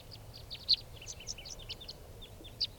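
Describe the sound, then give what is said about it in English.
Five birds call in quick, overlapping chirps and short high notes, scattered irregularly throughout, some sharper, over a steady low rumble in the background, as they come back around a truck and land on the ground. “Calling more, now coming back. And now they're all five are down on the ground.”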